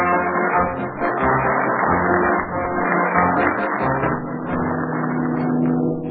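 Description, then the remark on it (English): A loud, steady engine drone with a churning, rumbling texture from a boat at sea bound for Havana, Cuba, continuing without pause and with no voices. “What's going on aboard the boat bound for Havana, Cuba?”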